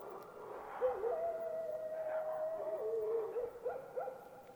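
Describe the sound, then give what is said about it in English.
Slow, drawn-out dog howls in a small town at sunrise, one long wavering tone that dips lower and then gives way to a couple of shorter rising cries, fairly faint over a steady background hiss. “And like many things that should not have happened, and happened, in the little town, showered by the first rays of the sun, only the slow and pitiful howls of the dogs were heard.”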